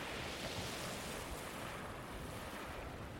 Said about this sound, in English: The car pulls up just past the stump of the lighthouse. Other than the wind and the sea, there's not a sound.